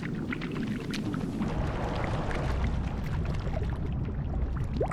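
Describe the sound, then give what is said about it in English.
An old-fashioned hand juicer, the kind pushed down on an orange, is pushed up and down through water as a swimming sound effect. Water escapes through its holes, making a steady bubbling and sloshing like something small swimming, with continuous churning gurgling bursts and no voices. “That was little baby Dory's up and down movements because it allowed for the water to just escape in a certain way through the holes.”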